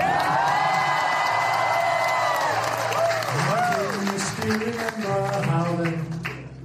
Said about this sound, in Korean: 지난 4월 국빈 방문 시 윤석열 대통령은 백악관 만찬장에서 이 노래를 불러 큰 박수를 받았습니다.